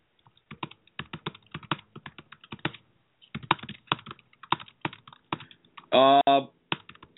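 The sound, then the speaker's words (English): Someone types a message on Facebook on a computer keyboard in quick, irregular bursts of crisp key clicks with short pauses, interrupted near the end by a brief loud buzzy tone before typing resumes. “I'm just going to send him a message.”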